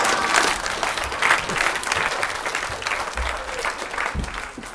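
A crowd applauds steadily throughout, a dense, even wash of many hands clapping with no voices standing out.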